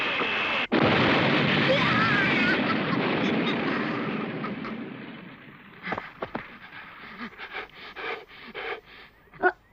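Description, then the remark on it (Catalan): A sudden loud blast of fireworks erupts into a long, roaring rumble that slowly fades, followed by scattered crackles and pops trailing off. “Han estat uns focs artificials magnífics, oi?”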